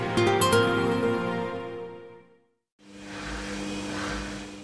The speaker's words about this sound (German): Sie läuft und läuft und läuft. Eine Waschmaschine in einem Testlabor irgendwo im Rhein-Main-Gebiet. Knapp 2000 Waschgänge wird sie hier absolvieren, jeder einzelne genau vermessen, protokolliert und bewertet.